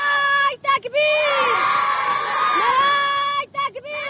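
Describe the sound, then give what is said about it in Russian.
A chorus of children of the Afghan resistance sings a resistance song loudly together in sustained, ringing tones, with brief breaths and pauses between phrases, in a documentary recording made in Afghanistan during the war. “Этой песне детей афганского сопротивления мы продолжаем цикл передач, посвященный войне в Афганистане.”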